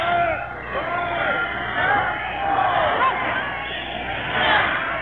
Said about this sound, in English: Everybody shouting for quiet. Quiet, everybody saying quiet.